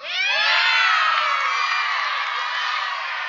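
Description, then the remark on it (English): A large audience shouts and yells the names of US states all at once, a dense, loud wall of overlapping voices calling out that holds steady for a few seconds and tapers off slightly at the end. “I offended Arkansas already. I have other states yelling at me.”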